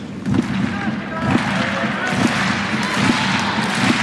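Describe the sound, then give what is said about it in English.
A stadium crowd at Court Philippe Chatrier performs the customary slow hand clap during a tennis match, steady unified claps landing roughly once a second over a continuous murmur of crowd noise. “And the customary slow hand clap rings around court Philippe Chatrier.”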